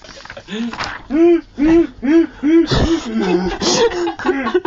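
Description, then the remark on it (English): A voice imitates a seagull, letting out a rapid series of about five loud, squawking calls in a steady rhythm, followed by a few rougher, wavering cries. “Seagull. It's returned. The seagull returns.”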